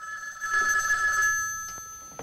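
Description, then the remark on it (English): A telephone bell in a pawn shop rings in one sustained metallic burst of about a second, clear, then cuts off, leaving quiet with a couple of faint clicks; the phone goes unanswered. “In the pawn shop, Nasserman ignores the phone.”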